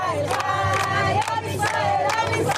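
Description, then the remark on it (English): A dense crowd of Israeli protesters blocking aid trucks bound for Gaza at a border crossing shouts and chants together, many voices overlapping in a loud, continuous roar with rising and falling cries and no single voice standing out. “At one border crossing, a group of Israeli protesters blocked aid trucks from heading to Gaza.”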